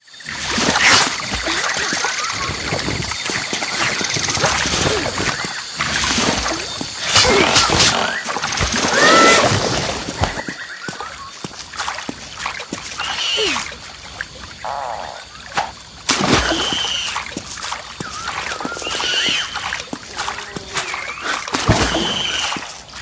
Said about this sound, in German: in der Sumpflandschaft, dem zweiten Spielabschnitt, unterwegs ist und sich an Lianen schwingt und in Wasser watend durch ein Gebiet voller nach ihm schnappender Feinde wagt